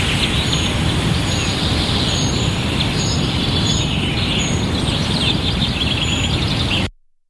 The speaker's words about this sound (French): Je me suis sentie près d'une cascade, au milieu d'une forêt avec des oiseaux. Ouais. Ouais, forêt, oiseaux, beaucoup d'oiseaux assez lointains.